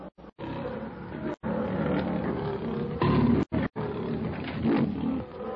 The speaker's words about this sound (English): With a savage growl, the huge king of beasts gathers his great tawny body for the charge. His yellow-green eyes, fixed in a baleful glare upon Kailuk, blaze hatefully. Suddenly, with a roar of savage fury, Numa leaps straight for Kailuk.